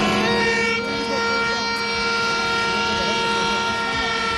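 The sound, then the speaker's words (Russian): Vehicle horns honk in a traffic jam on the main roads of Madrid, Spain, at the start of the working day, many held tones overlapping into one loud, continuous blare with a low rumble underneath, steady for the whole stretch. “столица Испании начала свой рабочий день в заторах и пробках на основных магистралях. И вот с этими звуками.”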